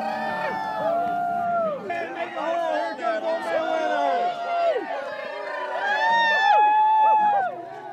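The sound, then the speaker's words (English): A large crowd at a midnight bonfire in West Virginia, on a 40-degree night, cheers and howls together as an Old Man Winter effigy is hauled onto the fire. Many overlapping voices with long rising and falling whoops, loud and sustained throughout, swelling near the end. “of Elkins Middle School is given the honor this year of hauling Old Man Winter onto the bonfire, amid cheers and howls from the crowd.”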